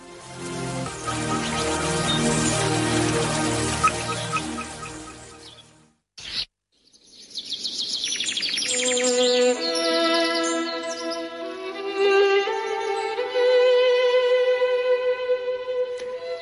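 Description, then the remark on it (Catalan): Birds sing and chirp in a dense, continuous chorus, then after a brief pause a clearer bird warbles in bright, rapid phrases with whistled notes. “Avui, l'expert en ornitologia Abel Julien, responsable de la Unitat de Divulgació i Formació de l'ICO, l'Institut Català d'Ornitologia, ens ajuda a conèixer i identificar els ocells i els seus cants.”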